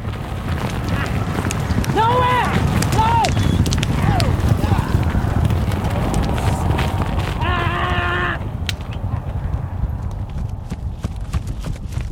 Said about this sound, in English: I recorded an Arabian horse. Arabians have a different gait than thoroughbreds. And I put 4 wireless microphones on each hoof. We wanted to control the speed of the horse, so we had the trainer run the horse in a circle with a rope.